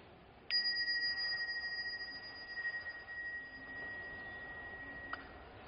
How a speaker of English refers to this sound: I will ring the bell, then you start your meditation. Then half an hour's time, there will be another alarm. Then I will ring the bell for a second time.